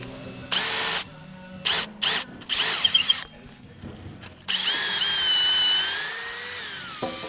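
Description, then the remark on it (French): A power drill backs out a screw during dismantling work: four short, high-pitched whining bursts, then a longer steady run of the motor whose pitch sags slightly before it stops. “Elle crie pas la vis.”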